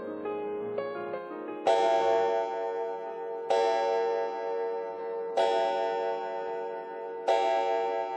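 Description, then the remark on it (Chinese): A clock strikes twelve with deep, resonant chimes: a few light notes lead into four heavy, evenly spaced strikes, each ringing and slowly fading before the next, with no voices. “等到时钟敲响12下的时候，我开始有了不祥的预感。”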